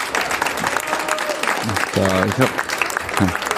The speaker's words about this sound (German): einen kleinen großen Applaus mit uns zusammen